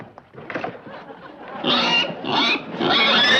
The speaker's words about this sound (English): It's the pig!